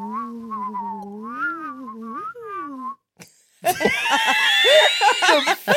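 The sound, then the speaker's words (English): A voice imitates the wind with a wavering, gliding hum that rises and falls for a few seconds, then a brief pause and a loud breathy rush with thin whistling tones over it. “And then the wind.”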